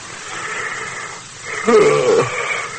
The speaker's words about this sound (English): You got me yawning, too.